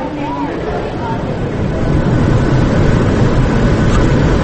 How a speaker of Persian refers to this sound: آه بلند شد هواپیما، رفت رد شد.